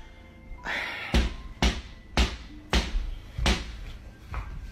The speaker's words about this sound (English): Then there's a clear knocking sound coming from the back door.